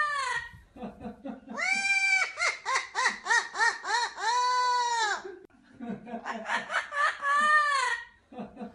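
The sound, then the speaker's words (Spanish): A parrot mimics a loud human belly laugh, with two long bursts of rapid, shrill, nasal 'ha-ha' pulses separated by a short pause. “Y, oye, que además de cantar, los loros son capaces de reírse a carcajadas.”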